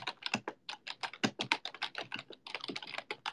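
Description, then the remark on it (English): Rapid, continuous typing on a computer keyboard, a dense stream of sharp key clicks and clacks with no pauses and no voices. “Alright, what else is the keyboard ASMR? My keyboard sucks. You guys like the sound of this?”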